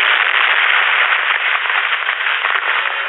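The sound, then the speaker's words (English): A loud, continuous roar as a police car topples into a ravine and explodes, crackling and rumbling steadily for a few seconds with a thin, boxy tone and no voices. “the police car topples and falls down, down into the ravine. The explosion illuminates the world below.”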